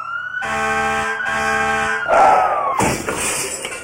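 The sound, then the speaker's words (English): The siren of a fire truck driving fast wails loudly, its steady tone sliding downward, broken by blaring horn blasts and a rush of traffic noise. No one speaks. “Noisiest thing I ever heard. Bells a-clanging and sirens screaming.”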